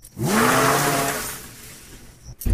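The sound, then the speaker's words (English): In a 60-second parody of I Know What You Did Last Summer, a drunk character drives home: a car engine revs up loudly and pulls away, its pitch rising as it accelerates, then fading out over a couple of seconds before a brief louder burst at the end. “Why don't you use your car? You know how to drive that.”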